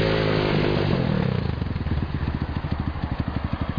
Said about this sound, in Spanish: Arriba una guàrdia urbana amb moto.